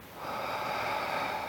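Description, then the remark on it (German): A long, steady exhale through the mouth during a breathing exercise, an airy rush of breath held evenly for over a second, moderately loud, with no talking. “Und atmen durch den Mund alles wieder aus.”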